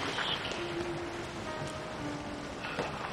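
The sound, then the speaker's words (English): Gentle water sloshing and lapping as a woman steps into a natural hot spring pool, a steady wash of splashy noise with faint sustained tones in the background. “She removes her robe and enters the water.”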